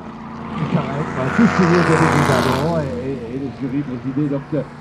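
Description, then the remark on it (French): The engine of a vintage Bertone 1750 coupé on a classic car rally drives by, its note rising and falling as it revs through the gears, with a brief whoosh of passing noise and some voices underneath. “Avec la fameuse coupée Bertone 1750.”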